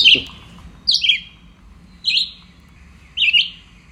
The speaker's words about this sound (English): The red-eyed vireo. A fairly nondescript bird with a very big bill that's hooked, a bit like a red-tailed hawk. And this is a bird that will sing to itself all day.